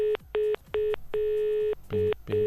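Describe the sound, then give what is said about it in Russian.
A series of clear telephone tones while dialing a phone number: three short beeps, one long sustained tone, then two more short beeps, fairly loud, with no one talking. “А что значит такой гудок?”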